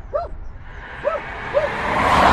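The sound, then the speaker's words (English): A dog next door barks three times in short, separate yelps over a steady rumble of road traffic, which swells louder toward the end. “Next door, we hear dogs alongside the noise of the road.”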